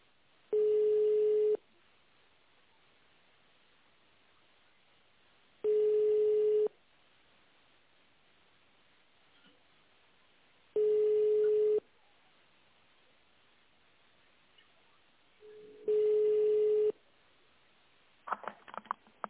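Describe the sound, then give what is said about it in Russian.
A telephone ringback tone, heard while waiting for an operator after calling a company in Saint Petersburg, repeats four times, each steady, mid-pitched burst lasting about a second with long silent gaps between, followed by a brief click and rustle as the line picks up. “Наберите в тональном режиме добавочный номер сотрудника или дождитесь ответа оператора.”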